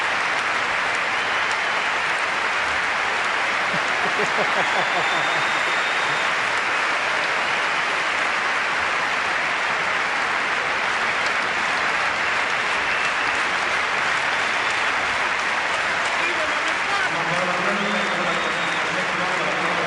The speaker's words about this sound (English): And the applause swelling throughout Olympic Stadium as Redmond, with assistance this time, approaches the finish line he had wanted so desperately to reach.